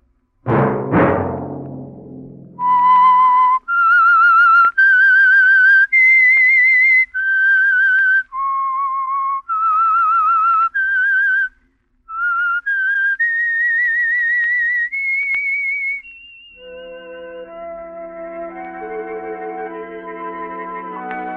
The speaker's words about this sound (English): Let that whistle be your signal for the Signal Oil program, The Whistler. Each Monday at 9.